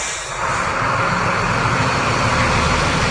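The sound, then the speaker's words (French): A delivery truck's engine rumbles loudly and steadily as the delivery driver pulls away after delivering pallets, a deep throbbing drone with a broad roar on top. No voices are heard. “Ça y est, le livreur s'en va.”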